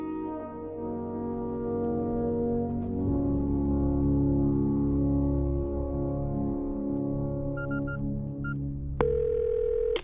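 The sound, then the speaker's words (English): A telephone line hums with a steady, droning tone, then a few quick keypad beeps sound before a sharper ring-like tone cuts in at the end. No one speaks. “I'm ringing to ask how you are.”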